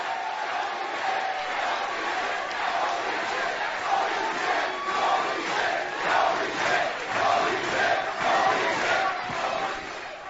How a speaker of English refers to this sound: As the crowd goes, holy shit, holy shit, holy shit. As they should, 'cause holy shit.